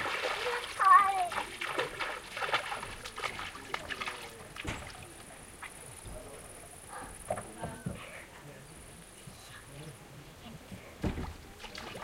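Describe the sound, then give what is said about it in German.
Irregular splashing and sloshing of water as a foot steps into cold water, with a louder splash near the start and quieter dribbles after, voices murmuring faintly in the background. “dass wir mein ganz kaltes Wasser hinbekommen haben.”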